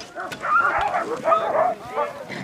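Reigning champion Yor Olsom's team of 13 sled dogs barks and yips excitedly as it leaves for Katna after a 24-hour break, their overlapping high-pitched yelps forming a dense, continuous chorus for the whole stretch.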